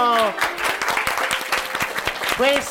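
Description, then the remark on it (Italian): Audience applause at the Radio Sei Forte Estate in Scena 2016 event at a summer centre, a steady wash of many hands clapping at moderate loudness, framed by brief spoken voices at the start and end. “Radio Sei Forte, un applauso.”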